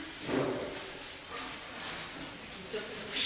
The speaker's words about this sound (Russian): Так, кто-то там дверь к нам ловит? Пока не может открыть.